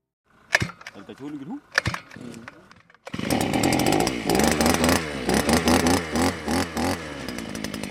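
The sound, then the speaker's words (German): A petrol earth auger's small two-stroke engine kicks in after a few seconds of knocks and a brief voice, then roars loud, its pitch rising and dipping as it drills for tree planting; a worker guides it by two handles, its spiral rotating. “Ein Arbeiter führt den Erdbohrer an zwei Haltegriffen, dazwischen die rotierende Spirale, darauf ein Motor und ein kleiner Benzintank.”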